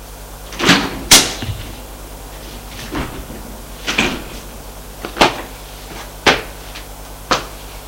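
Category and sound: household object, knocking on a door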